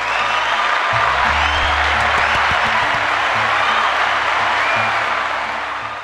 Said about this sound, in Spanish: Y queremos darnos un aplauso y darle un aplauso a ustedes por darse el break con nosotras. Y un aplausito por aquí.